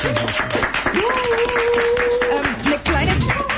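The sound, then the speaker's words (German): A studio audience applauds steadily, dense clapping filling the whole few seconds at a loud, even level, with a drawn-out whoop or cheer rising above the claps partway through. “Vielleicht nochmal ein kurzer Applaus hier im Studio, dass ihr auch alle da seid.”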